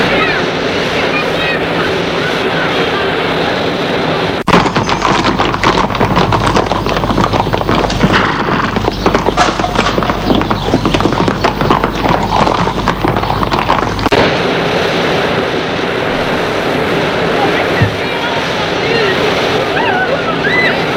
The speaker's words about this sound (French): ils vont tous les deux faire des courses folles à cheval sur la plage.